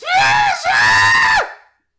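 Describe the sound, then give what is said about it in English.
A human voice imitates a dragon's shriek: two loud, high-pitched, strained cries in quick succession, the second longer and trailing off, with no other talking. “Which sounds to most of you like a shriek.”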